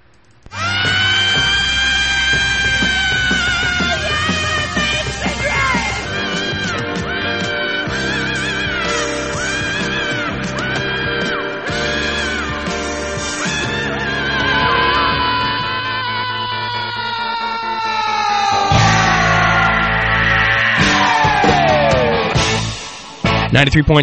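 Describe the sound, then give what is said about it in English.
A loud, full-band rock song played on CFMU radio, with a woman singing over driving guitars and drums, playing steadily throughout at even volume. “So anyway, get ready and rock out.”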